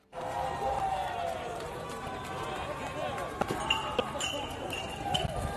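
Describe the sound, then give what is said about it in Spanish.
A dense, steady roar of a shouting protest crowd, with shrill whistles piercing through in the second half and sharp crackling pops of flames scattered throughout, as protesters against raising the retirement age set fire to the 239-year-old Palais Rohan building in France. “Llamaradas, gritos, silbidos sobre el Palais Rohan.”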